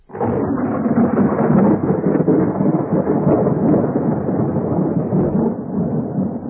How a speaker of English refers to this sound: There was a great storm, and God went back to heaven, leaving a flaming sword to make sure nobody touched the tree again.